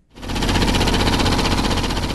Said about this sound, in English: The sounds of construction echo across Beijing as China prepares to host the 2008 Summer Olympics. With highways, subway lines, and athletic venues being built and prepped to host the games in Beijing